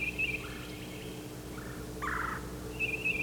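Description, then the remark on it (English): Bird calls from a bird called Yellow Yellow and another bird down at the crossing ring out in several quick, rattling bursts, high-pitched at the start and end with a lower burst in the middle, as the birds call back and forth over a steady low hum. No one speaks. “Here's Yellow Yellow calling again.”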